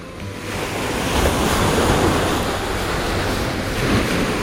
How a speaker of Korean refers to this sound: 사방에서 불어오는 세찬 바닷바람에 온몸을 두들겨 맞고 나니 땀으로 범벅된 몸이 한결 상쾌해진다.